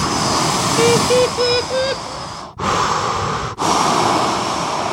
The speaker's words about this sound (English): So I have to talk about the audio. So you've got the waves that are crashing on this rock where the lighthouse is, and this is what you hear in the background.